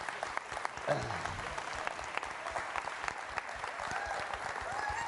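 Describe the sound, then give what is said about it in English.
An audience claps steadily for several seconds for graduating seniors being recognized, a dense, continuous patter of many hands at moderate loudness, with a brief voice cutting in near the start. “And these two, make sure when we get to the applause, you give them a big applause because they pulled a double shift today.”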